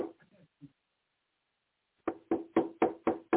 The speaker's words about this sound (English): He might knock on the door.